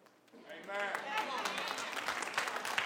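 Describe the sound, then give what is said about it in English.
A church audience breaks into steady, dense applause during a sermon, swelling quickly and holding at an even level, with scattered voices calling out and cheering through the clapping. “We got to put an applause meter up here or something.”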